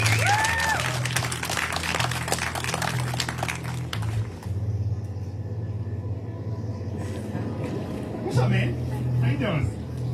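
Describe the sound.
An audience at a baptism service claps for a man coming out to be baptized, a dense, crackling burst for about four seconds before it thins out, leaving a low steady hum and a few voices murmuring underneath.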